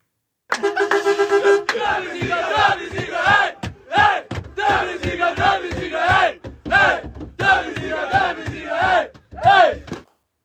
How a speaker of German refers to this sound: Ja, dieses Video ist leicht verstörend. Also, weil man hat den Einblick in diesen Bus und da sind so etwas ja, ich sag mal, aufgedrehte junge Menschen, also das Team, in einem Knäuel vereint und brüllen einfach am Anfang